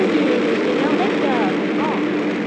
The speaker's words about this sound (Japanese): 打ち上げの 4.7 秒前にですね、メインエンジンに着火して、それからこう水力が立ち上がるんですが、 平成18年 水力が立ち上がったのを確認して、大きな固体ロケットモーターに点火するんです。点火するとすぐにリフトオフします。 打ち上げられました。